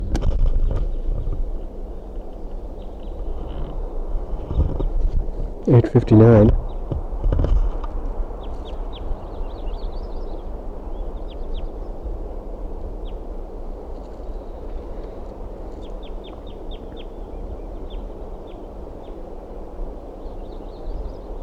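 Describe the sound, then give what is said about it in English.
Brief, high flight calls of a bird south of a nest chirp in scattered short bursts over a steady low background rumble, after a louder burst of clattering thumps early on. “Those are flight calls of some bird that's south of the nest.”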